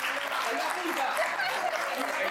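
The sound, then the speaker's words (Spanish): Steady applause from an audience at a live show, a dense wash of many hands clapping at an even, sustained level for a couple of seconds, with faint voices and a hint of chuckling mixed in. “Wow, pero eso ya fue un aplauso pregunta.”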